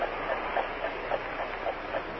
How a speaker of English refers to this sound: On the desk is a clock that ticks slowly as the seconds go by.